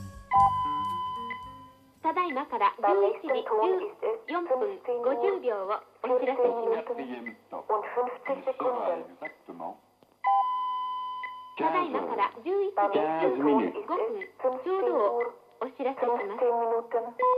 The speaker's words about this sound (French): Ce mélange d'horloges parlantes, je ne l'ai pas fait moi-même. Il s'agit d'un collage que l'on trouve sur le disque dont on peut fêter le 30e anniversaire